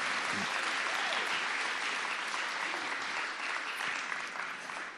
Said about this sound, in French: Est-ce qu'on peut donner une main d'acclamation à notre Seigneur ressuscité?